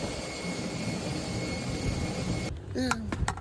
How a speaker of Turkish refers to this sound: En çarpıcı görüntü uluslararası havalimanından geldi. Adeta göle dönen havalimanında uçuşlar iptal edildi. Pistte ilerlemeye çalışan uçak ilginç görüntüler ortaya çıkardı.